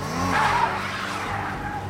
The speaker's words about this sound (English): One car careened off the road, then tried to run over the park rangers when they approached on foot.